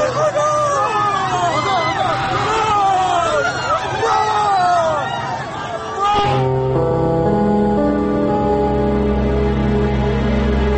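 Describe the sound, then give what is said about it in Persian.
A crowd of people in a street wails and cries out together after gunfire, many rising and falling voices overlapping loudly for about six seconds, then cut off abruptly by steady, sustained droning tones. “دوباره صدای شلیک می آید و صدای شیون مردم.”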